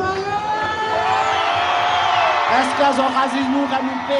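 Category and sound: crowd, crowd cheering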